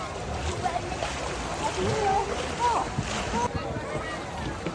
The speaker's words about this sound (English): splash, splash, splash. Good girl. Splash, splash, splash. Splash, splash, splash. Wow.